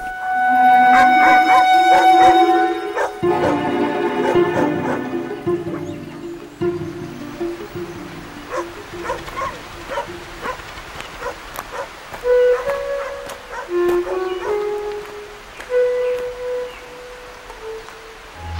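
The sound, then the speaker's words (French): Several dogs bark and yip together in a busy, overlapping chorus, loud at first, then settling into scattered barks mixed with high whining and yelping that continue throughout. “Alors on entend les chiens, combien il y a de chiens ici ?”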